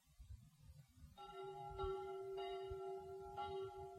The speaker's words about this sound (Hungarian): Ez a halál harang.